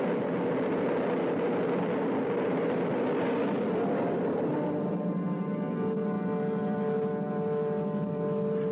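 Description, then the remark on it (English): A continuous, heavy roar of rocket engines at the liftoff of the Diana spacecraft fills the whole stretch, dense and rumbling, shifting partway through into a steadier tone with a faint whine riding over it. “5, 4, we have ignition. All engines are running. We have a liftoff.”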